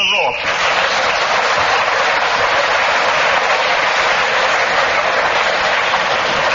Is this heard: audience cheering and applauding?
yes